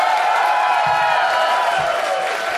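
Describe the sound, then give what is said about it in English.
A loud, steady wash of crowd noise, an audience cheering and applauding together for Larry Summers without a break for a couple of seconds, full. “Make some noise up in this piece for Larry Summers.”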